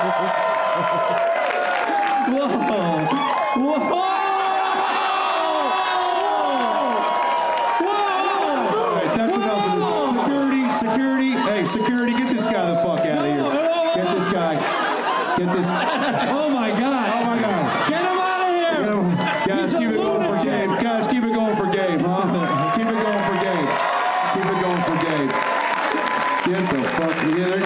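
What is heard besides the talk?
audience cheering and applauding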